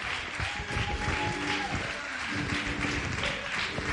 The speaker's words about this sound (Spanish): Gracias por aplaudir esto.